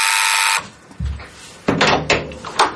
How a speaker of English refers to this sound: Oh, the door's going. Who could it be?